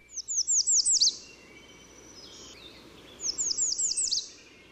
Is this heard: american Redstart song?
yes